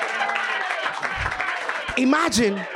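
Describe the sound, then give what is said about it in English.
An audience claps for a man who offered the villain name Mojo Joker, in a steady, dense patter lasting a few seconds, with voices calling out and a louder shout rising over the applause near the end. “Clap for that guy.”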